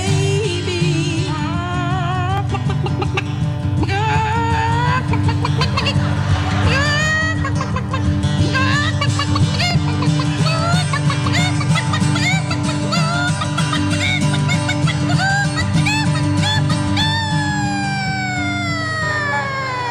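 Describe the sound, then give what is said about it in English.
A woman at a contest in Swartz Creek, Michigan imitates a hen's egg-laying cackle in a string of squawking, swooping pitch slides and bent notes, loud, running throughout over a steady, busy musical backing. “… chicken laying an egg, honey.”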